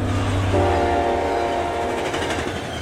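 A train rumbles steadily along the rails, a loud, continuous roar with a sustained horn-like tone joining in after a moment and holding to the end. No voices.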